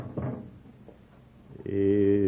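A kitchen door closes with a brief, dull knock and a faint clatter. Moments later a loud, steady, droning vocal sound begins and holds to the end.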